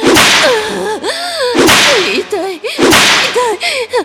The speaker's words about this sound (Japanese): 水ぶくれになった、ムチの後に、再びムチ打つだなんて。